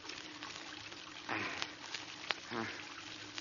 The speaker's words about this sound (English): Oh, dear. Oh, Archie, I thought you said the water was turned off. Gee, it was off, Dad.